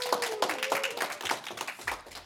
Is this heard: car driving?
no